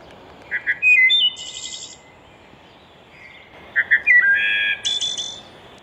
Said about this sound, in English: Kunze brings up the song on his phone. It's related to a robin. It's about the shape of a robin, a little bit smaller. And this is its song.